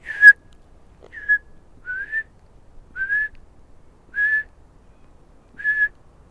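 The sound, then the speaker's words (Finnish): Six soft, short whistled notes spaced about a second apart, each a slightly rising, mellow piping tone, a person whistling with the lips to imitate a Eurasian bullfinch call, fairly quiet with no talking. “No ehkä semmoiset viheltävät, jota voi, niin kuin, jos osaa viheltää, niin huulillahan voi tehdä niitä, sitä punatulkkua justiinsa.”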